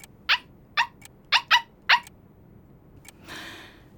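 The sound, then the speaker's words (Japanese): A stray dog that wandered into a social party barks five sharp times in quick, uneven succession, with no one talking, then a short burst of hissy rustling noise follows. “あの社交パーティーには大切な方がたくさんいらしていたというのに、迷い込んできた野良犬にかまけてご挨拶もおろそかにするだなんて。”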